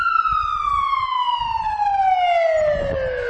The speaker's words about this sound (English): So that's sirens on, so that's someone, basically, if you're going to die, within whatever it is.